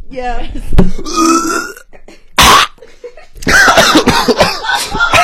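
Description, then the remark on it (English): A person imitates a dog coughing, letting out loud, raspy, burp-like hacks: one sharp burst, then a rapid string of throaty barking coughs, with other vocal noises around them. “Should I dog cough?”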